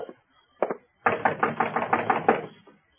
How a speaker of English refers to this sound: Okay, hold up. Knock on the door.